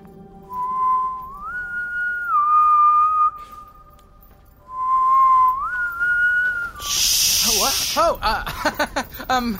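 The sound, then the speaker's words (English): A catchy hummed tune carried on a clear, steady tone, played in two rising phrases with a brief pause between, followed by a sharp burst of hiss and some wavering vocal sounds. “There it is again, the hum.”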